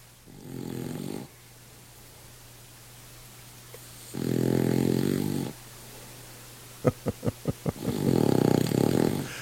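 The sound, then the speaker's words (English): A King Charles Spaniel named Chubby snores in its sleep with three long, rasping breaths spaced a few seconds apart, plus a quick run of five short snuffling snorts just before the last one. Fairly quiet. “Weekday listener Sammy recorded the sound, saying that Chubby is the noisiest snorer in the house.”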